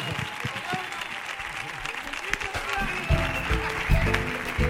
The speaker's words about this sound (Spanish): ¡Ovación, que suene fuerte la ovación!